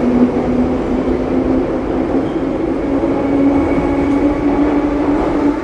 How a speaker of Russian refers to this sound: Протискиваю среди этой оголделой толпы в метро. Вхожу. Снова необъятная масса людей. Все спешат, как муравьи. Быстро перебегают от одного эскалатора к другому. Села в поезд.